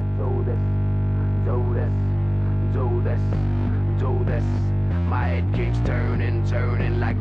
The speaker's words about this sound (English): Yeah, basically when the song starts, there's just this droney sound, and that droney sound is there's no instrument creating that sound. That's just this broken distortion pedal.